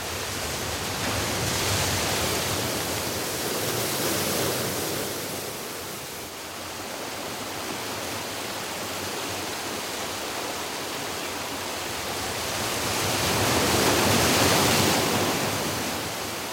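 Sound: sea waves and surf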